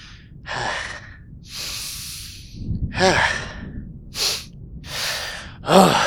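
A series of about seven deep sniffs and breathy inhales as someone sniffs the scent of a donut, each a short airy burst with brief pauses between, some ending in a soft voiced sigh; no talking.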